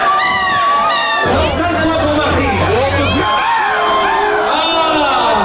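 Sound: people imitating seagull calls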